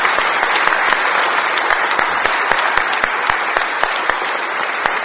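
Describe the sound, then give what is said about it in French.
An audience claps steadily for several seconds in applause to God during a prayer, a dense, sustained wash of many hands with sharper individual claps standing out, and no voices. “Nous voulons t'applaudir, toi le Dieu fort, le Dieu saint, le Dieu vivant.”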